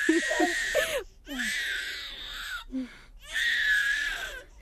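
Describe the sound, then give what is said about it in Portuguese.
A newborn baby girl cries just after birth in three long, strained wails separated by short gasping breaths, loud, with a few brief low murmurs at the start. “Parabéns, Luísa. Aqui tem a sua bebê.”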